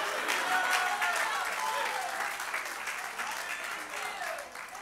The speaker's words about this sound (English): Somebody to clap your hands and shout hallelujah.